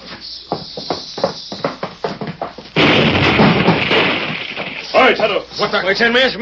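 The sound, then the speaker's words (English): Voices talk before a sudden loud explosion, set off to blow up a safe, erupts into a roaring, rumbling burst of noise that lasts about two seconds and then fades as people start talking again. “I'm going to blow this thing up.”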